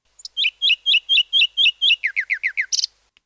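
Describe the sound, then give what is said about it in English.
A nightingale sings in dense scrub at the edge of a heath, a loud phrase of about eight evenly repeated whistled notes, then a faster run of lower descending notes ending in a sharp buzzy flourish, with no other sounds. “Patches of dense scrub are often found on the edges of heaths, and these form habitat for the most well-known and celebrated songbird, the nightingale.”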